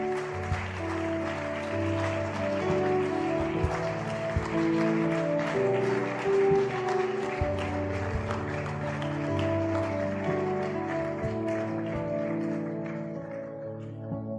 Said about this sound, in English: Clapping for you, not because you're on show, but we're so excited about what's happening in your life right now.